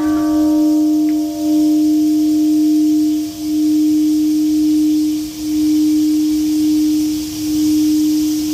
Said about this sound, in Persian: زنگ ها در شهر هیروشیمای ژاپن روز پنجشنبه به مناسبت 75مین سالگرد انفجار اتمی در این شهر به صدا درآمد.